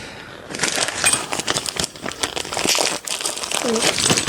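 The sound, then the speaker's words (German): A wrapped gift package is shaken, its paper crinkling loudly while small objects inside rattle and clink for several seconds, with a brief voice murmuring near the end. “Es klickert wie die Rentiere.”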